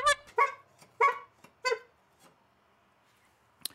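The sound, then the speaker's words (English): A string of five short, blaring horn honks at an uneven pace, the first four loud and the last one fainter, followed by quiet and a brief click at the end. “Hey, five horn honk boys. Where's my horns?”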